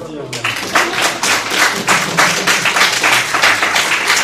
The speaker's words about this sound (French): Applaudir.